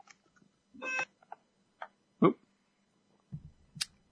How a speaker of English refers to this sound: There was a delivery coming in, and there was intercom buzzing there. So apologies.